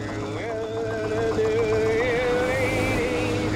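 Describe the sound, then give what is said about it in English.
A boat engine drones steadily and loudly, its whining pitch wobbling up and down as it strains and begins to falter, the engine dying and burnt out, with an engine fire. “Starting to lose it. Now, as they realize that the engine is dead and totally fried, they're trying to put out the engine fire.”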